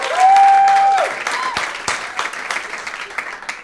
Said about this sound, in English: Golf claps. You got a few. Golf claps. Few.